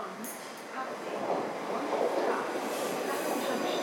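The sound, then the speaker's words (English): A South West Trains service, the 09:04 to London Waterloo, rolls into platform 2 of a station, its broad, steady rumble of wheels and carriages swelling slightly as it draws near, with faint, indistinct voices in the background. “The train now approaching platform 2 is the 0904 Southwest Trains Service to London Waterloo.”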